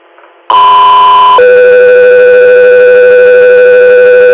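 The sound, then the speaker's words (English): Dispatch radio alert tones: a loud, steady high tone holds for about a second, then drops to a lower tone that sustains for around three seconds, preceded by a brief faint murmur. “customer area, stand by for tones.”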